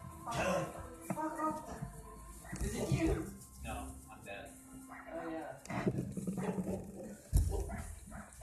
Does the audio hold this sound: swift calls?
no